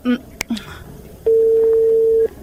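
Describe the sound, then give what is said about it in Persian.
A mobile phone call's ringback tone sounds once: a steady, fairly loud electronic hum lasting about a second, preceded by a few brief clicks and short fragments of sound. “خی زنگ بزن، اشکی خوب نیستم. خو باش که موبایل ما در کجا مانده.”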